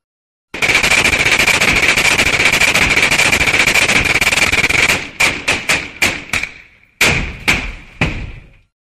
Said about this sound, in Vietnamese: Bọn phía sau trấn tỉnh lại, ôm súng máy bắn xả vào giường. Mãng cầu rụng nghe lịch bịch.